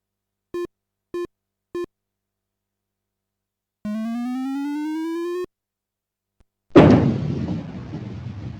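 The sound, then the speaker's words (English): In a bowling game, three short electronic beeps and a steadily rising synthetic tone, then a pause before the second ball of the tenth frame smashes into the remaining 6 pin for a spare, with a loud, noisy clatter that trails off over a couple of seconds. “You knock 1 pin down with your second ball.”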